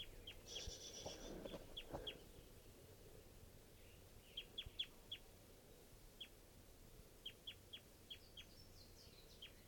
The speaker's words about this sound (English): Pointed now at a juvenile. Another wild bird.